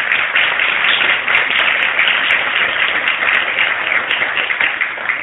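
An audience applauds steadily for about five seconds for the last participant at a reading event, a dense, crackling wash of many hands clapping at an even loudness, with no voices standing out.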